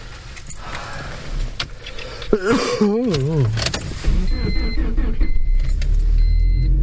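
Keys jangle and clink, then a car engine cranks with a wavering, labored whine for about a second before catching and settling into a steady, low running rumble.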